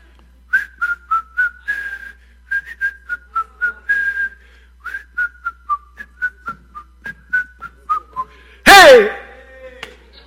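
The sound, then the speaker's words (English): A person whistles a bouncy, familiar melody in quick, clipped notes, clear and crisp, ending with a sharp, loud downward-sweeping burst of sound near the end. “I'm going to play a little Name That Tune.”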